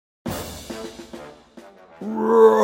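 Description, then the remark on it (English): A lion roars loudly, a deep rumbling growl followed by a second, rising roar that swells at the end, with no talking. “Roar! Roar! The lion made loud sounds.”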